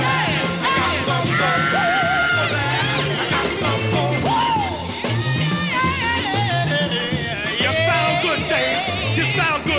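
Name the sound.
man screaming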